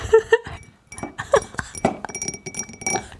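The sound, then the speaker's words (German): Glass clinks sharply a few times as a small bottle is opened, followed by a steady crackling fizz of the carbonated drink bubbling, with no voices. “Macht euch einfach eine kleine Flasche auf. Und dann hört ihr es auch sprudeln.”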